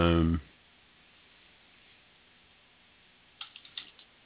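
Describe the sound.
A handful of quick, light taps on a computer keyboard land in a short irregular burst near the end as someone types into a chat room, following a brief voice at the start and a quiet stretch of room tone.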